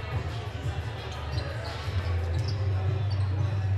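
Basketballs thump steadily as players from two teams run layup drills, the bounces overlapping under a low, constant crowd murmur with echoing ambience.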